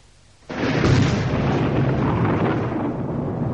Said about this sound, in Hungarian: Villámlik. Menj, dörög.